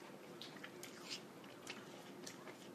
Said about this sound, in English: I don't know, I'm biting this apple and I'm getting, like, sweet potato flavor. Like, yam.